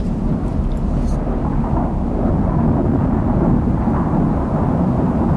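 thunderstorm with rolling thunder

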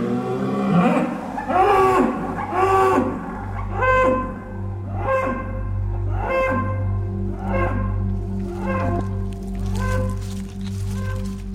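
dairy cows mooing

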